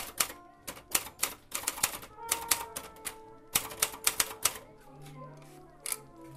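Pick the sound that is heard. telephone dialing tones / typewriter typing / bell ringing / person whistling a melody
typewriter typing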